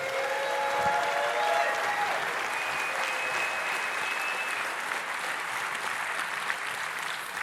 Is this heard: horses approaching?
no